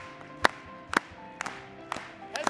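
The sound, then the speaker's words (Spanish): A church audience claps together during a song of praise in Spanish, in a steady, unison beat, five sharp claps about half a second apart, moderately loud over a faint sustained musical tone. “Vamos a aplaudirle.”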